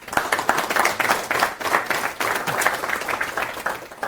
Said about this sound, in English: give him some applause.